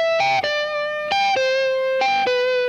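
A lead electric guitar through effects plays three long sustained notes, each opening with a quick warbling trill or bend, clear and upfront with no voices.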